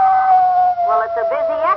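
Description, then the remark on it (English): A single long howl of a male (buck) timber wolf holds a steady, slowly falling tone, loud, with a wavering, voice-like cry layered over it through the second half. “Now, that was the male, or the buck wolf.”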